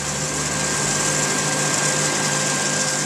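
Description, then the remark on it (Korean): A steady, continuous engine drone from large tractors moving back and forth across a vast cotton field in Alabama, USA, with an even mechanical whine and low hum that holds without pause and with no voices. “과연 미국 땅이 얼마나 넓은지 짐작도 안 될 만큼 넓은 목화밭을 집채만한 트랙터들이 이리저리 움직이고 있다.”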